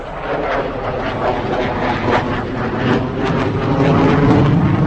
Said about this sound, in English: Only the heavy clouds spoilt the flypast by a team of Gripen fighters, the pride of the Czech Air Force. They were heard but not seen by the crowds.